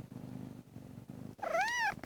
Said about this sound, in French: C'est les étirements du chat que vous entendez.